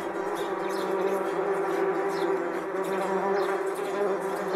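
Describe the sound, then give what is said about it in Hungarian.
A dense, steady buzzing of many bees swarming out of their hives together, a continuous droning hum with shifting layers of wingbeats, loud, with no voices. “A méhek zimzum szépen kifolytak mind a mezőre.”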